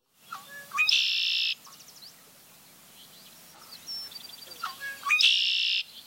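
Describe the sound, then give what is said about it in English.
A red-winged blackbird sings its song twice, each time a few short liquid notes rising into a loud, buzzy trill, with a quiet pause of faint chirps between the two songs. “Thus, we might write down conquerie to help us remember the song of the red-winged blackbird.”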